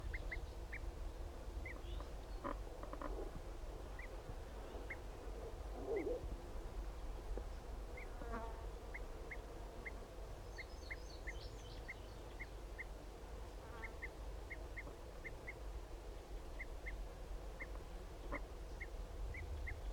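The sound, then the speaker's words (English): Two male birds give short, high flight calls that repeat steadily throughout, with a few brief higher trills and scattered lower chirps over a constant low rumble; no one speaks. “Start recording those both of those males giving flight calls.”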